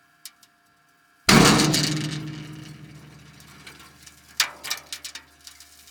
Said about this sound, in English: Okay, yeah, I think I heard some kind of, I don't know, explosion, or you call it differently, I believe. Yeah, it's a shock pulse you heard.